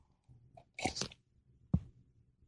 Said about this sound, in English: Look at a cup, for example. I got my cup here. I'm going to take a sip.